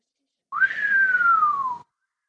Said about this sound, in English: She let out a low whistle.